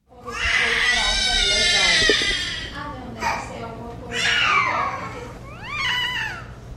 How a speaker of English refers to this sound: Many were born with severe microcephaly, a much smaller head than normal when brains don't develop properly. And these newborns have a distinctive plaintive cry. NPR's Rob Stein recently sent this sound from Brazil.